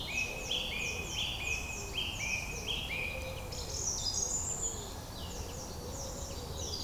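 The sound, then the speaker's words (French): A song thrush repeats its bright, ringing phrases over and over, with a robin's thin warbling mixed in and a wood pigeon's soft, low cooing running steadily underneath. “Cette note répétée, c'est la grive musicienne. Derrière, on a toujours un pigeon ramier et le rouge-gorge.”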